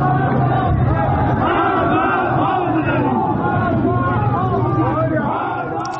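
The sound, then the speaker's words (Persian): A large crowd of protesters in Malekshahi, Ilam, Iran, chants slogans including "Death to Khamenei" in unison on a Saturday, a loud, continuous mass of shouting voices with rising and falling rhythmic phrases across the whole stretch. “روز شنبه همچنین در ملکشاهی ایلام معترضان فریاد مرگ بر خامنه ای سر دادند.”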